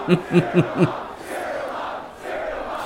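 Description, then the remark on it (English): In the film Serial Mom, a crowd and band cheer loudly: four rhythmic, chant-like shouts in quick succession, then a sustained roar of many voices that continues to the end. “In the band is cheering on Serial Mom.”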